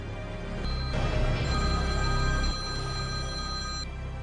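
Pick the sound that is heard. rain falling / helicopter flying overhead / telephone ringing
telephone ringing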